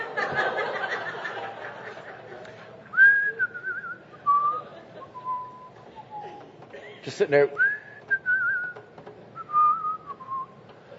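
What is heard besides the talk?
person whistling a tune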